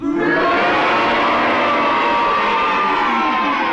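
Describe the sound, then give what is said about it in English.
A large studio audience roars all at once, cheering to back Sheila Hancock's challenge and booing to side with Clement Freud. The cheers and boos blend into one loud, sustained wall of voices that holds steady for several seconds without a break. “In other words, if you agree with Sheila's challenge, will you please cheer? And if you disagree with her challenge and you're on Clement Freud's side, will you please boo?”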